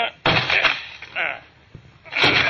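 door being broken down

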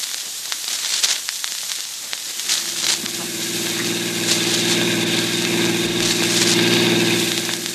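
car engine running

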